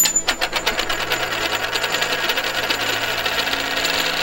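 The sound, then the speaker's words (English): A heavy coin drops onto a desk with a sharp ringing clink, then spins and rattles in a rapid, shimmering roll that continues without slowing much. “Listen to this fall on my desk.”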